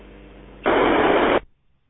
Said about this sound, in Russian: Ну, с мобильника работаю, поэтому тут как бы качество, все нормально. Вот, у вас там слышится шум эфира, поэтому как бы, ну, все нормально.